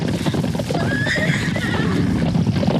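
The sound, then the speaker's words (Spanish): Bedouin riders' horses gallop in a dense, continuous rumble of hoofbeats while a high, wavering neigh rises through the middle. The sound stays loud and steady throughout, with no voices. “Los beduinos llegan a todo galope lanzando gritos enloquecidos y blandiendo largas espadas y enarbolando rifles.”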